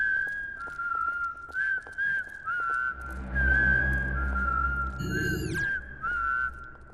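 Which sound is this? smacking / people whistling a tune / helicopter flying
people whistling a tune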